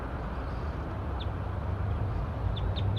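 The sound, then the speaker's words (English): A wild bird in a pine tree gives a few short, high chirps, one alone and then three in quick succession, faint against a steady low rumbling background noise. “Pointed at the wild bird again, back in the pine tree.”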